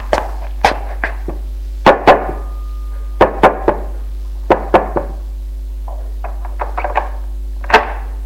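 knocking on a door

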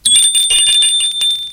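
doorbell ringing

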